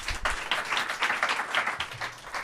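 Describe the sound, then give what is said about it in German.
Sustained applause from an audience for two politicians after a debate, a dense, steady wash of many hands clapping at once, fairly loud and continuous throughout with no voices standing out. “Und dafür bitte ich jetzt um einen herzlichen Applaus.”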